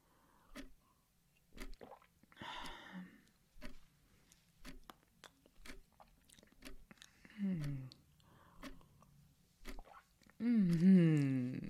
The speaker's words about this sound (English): Stay still while I finish my drink and pastry.